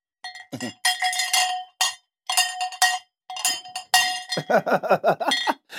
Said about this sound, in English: Maybe if I ring the bells.